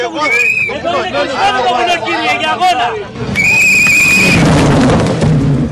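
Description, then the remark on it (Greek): Busy crowd chatter fills the first half, then a loud rush of noise with a high whine sweeps in as a car speeds past very near, narrowly missing a person, and trails off. “Μόλις πέρασε ξυστά το αυτοκίνητο και δυστυχώς ή ευτυχώς δεν τον πάτησε.”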